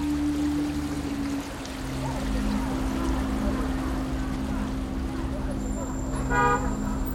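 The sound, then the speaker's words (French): Bus 122 idles at the Noue Clos Français stop in Montreuil, France, with a steady low engine drone, then a short high-pitched toot sounds near the end. “À Montreuil, le bus 122 marque l'arrêt à la noue Clos Français.”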